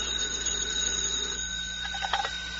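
telephone ringing

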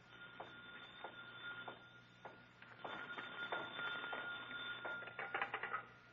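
telephone ringing

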